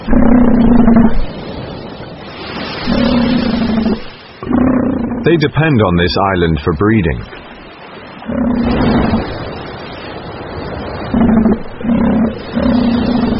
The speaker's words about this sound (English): In August, after months at sea, elephant seals arrive.